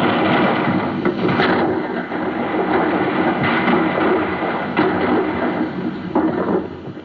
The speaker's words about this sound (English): Yesterday, the sound of cannon fire was made by striking a kettle drum and hitting the low notes on the piano, like this. Today, it is made by playing a recording of cannon fire on a turntable.